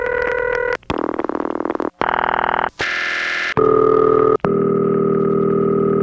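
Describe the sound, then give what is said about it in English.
A dull telephone ring, one of the main Bell System rings for the US, called City Ring by phone phreaks: loud, buzzy electronic tones in several back-to-back bursts separated by very short gaps, each burst a steady hum at a slightly different pitch, with no voices. “Well, this is the ring that the phone freaks called City Ring. It's very dull.”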